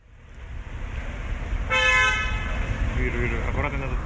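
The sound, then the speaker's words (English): The American ambassador's car, flag flying on the front, draws up outside Lefortovo prison amid a steady low engine and street rumble, with security guards there. A single short horn toot sounds partway through, with faint voices in the background near the end. He is arriving for a regular consular visit to Paul Whelan. “There's a couple of security guards here outside Lefortovo prison and the American ambassador's car just drawing up, the flag flying on the front, and he's pulling up for a visit now to see Paul Whelan here, one of the regular consular visits”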